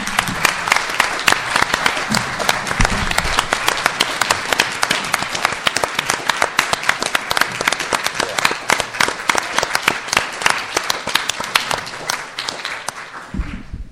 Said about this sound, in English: And I think it absolutely deserves a round of applause for that.